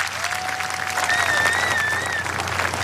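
A crowd applauds with steady, dense clapping that holds an even level for the whole three seconds, and a few thin, wavering whistles rise above the clapping.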